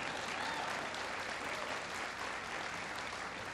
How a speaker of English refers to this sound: That's worth applause, sure.